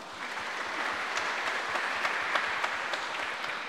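A crowd applauds steadily for a couple married for 17 years, dense overlapping claps forming a continuous wash of sound with a few sharper claps standing out, sustained at an even level throughout.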